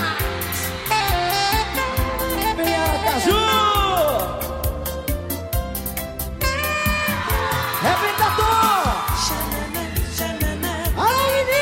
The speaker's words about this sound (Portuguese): E o grito das minhas meninas.